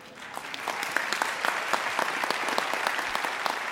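An audience at the 74th Tony Awards claps steadily throughout, a dense wash of many hands with crisp individual claps popping out, sustained at an even, fairly strong level with no voices heard.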